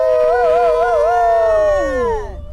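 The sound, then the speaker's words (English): Several people, members of a team named Wolf Taco wearing plush wolf hats, howl together in imitation of wolves to cheer on a runner in the dark, a loud sustained wavering cry that holds steady and then slides downward in pitch before fading out, with no talking. “We're howling and wearing plush wolf hats because our team is named Wolf Taco.”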